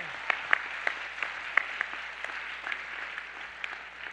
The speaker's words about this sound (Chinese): 拍手将荣耀归给神。